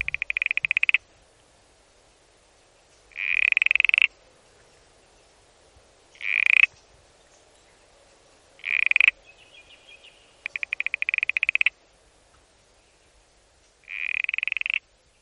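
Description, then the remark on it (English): A smooth frog (Geocrinia levis) calls repeatedly in clear, separate bursts, some as rapid pulsed trills and others as harsher buzzy notes, spaced a few seconds apart against a quiet background. “Now let's hear Geocrinia levis, the smooth frog.”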